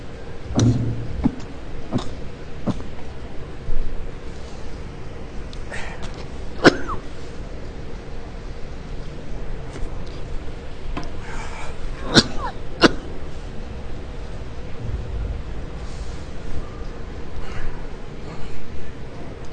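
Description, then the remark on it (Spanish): Someone clears their throat and coughs in scattered bursts, including a sharp pair of coughs near the end, separated by stretches of quiet background hum. “Y la tos no se quiere ir.”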